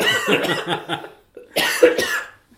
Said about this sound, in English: Cough, cough, cough, cough.